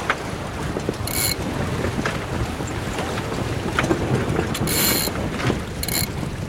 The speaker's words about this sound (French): Ouais, non, là on va se mettre au près et je vais changer la voile d'avant.